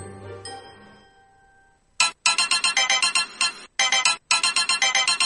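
A pop song starts playing on a radio program, loud bright electronic notes pulsing in a fast, steady rhythm with a couple of brief gaps, after a short fading tone; no one speaks.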